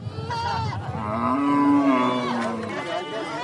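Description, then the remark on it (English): A cow lets out one long, loud moo that holds steady for over a second, set against a busy, murmuring background of people and other animals, including goats and sheep, at a livestock auction center on the outskirts of Kwajok, the Warrap State capital. “At the Kwajok Auction Center, on the outskirts of Warrap State capital, people outnumber the cows and goats and sheep.”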